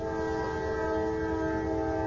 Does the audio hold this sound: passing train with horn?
yes